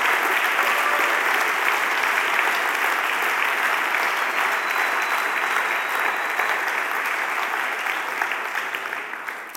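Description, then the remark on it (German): A large audience applauds steadily, a dense, sustained wash of clapping that stays loud throughout and begins to taper off near the end. “Und auch wenn sie jetzt einen Grossteil gehört und ihr gerade schon applaudiert habt, könnt ihr gerade noch einmal Applaus geben für die und die Abschlüssel.”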